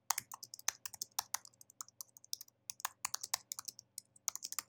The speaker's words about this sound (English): So you can hear me typing.